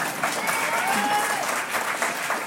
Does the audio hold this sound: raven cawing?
no